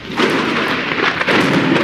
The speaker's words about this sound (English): Looks like I made it here just in time. Sounds like we have a pretty big storm heading our way, friends.